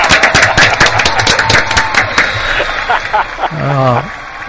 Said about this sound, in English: Who is Best Actress for 60s and 70s television as voted by the fine folk of Cult TV's Annual Hall of Fame? It is... It is my wife, I am so proud to say, Annette Andre. Yay! Round of applause, please!